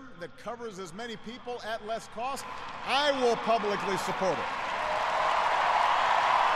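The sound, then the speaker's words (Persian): A man speaks over rising crowd noise that swells into steady audience applause during a speech by Barack Obama about health insurance, a broad hissing wash of clapping that grows louder and continues alone after the voice stops. “و بازم روی از این که از این بیمه صحی حمایت شود تاکید کردند و مردم هم تشویق زیاد میکنند در این قسمت.”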